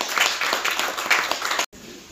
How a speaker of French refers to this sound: Et bien, je pense qu'on peut vous applaudir.